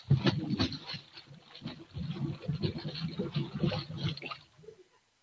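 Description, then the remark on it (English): A new Cadillac car plunges into a swimming pool: a heavy splash followed by several seconds of loud churning, gurgling water that fades out abruptly. “Right into the water.”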